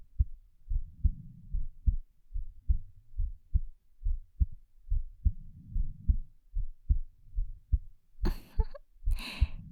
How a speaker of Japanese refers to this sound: どう？ママの心臓の音。聞こえるよね。